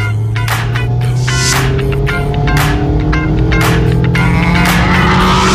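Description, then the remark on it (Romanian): A Mazda MX-5 roadster's naturally aspirated 2-litre, 184-horsepower four-cylinder petrol engine, rear-wheel drive, hums steadily while driving, its note rising and falling gently, with repeated brief loud tire squeals or skids breaking through. “Motor pe benzină aspirat, 2 litri 184 cai putere, tracțiune pe roțile spate, turometru se oprește la 8000”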